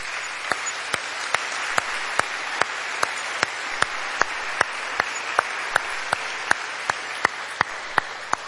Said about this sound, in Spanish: Un aplauso al Señor por su gloria.